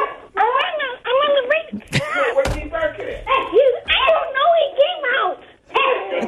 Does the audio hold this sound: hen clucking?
no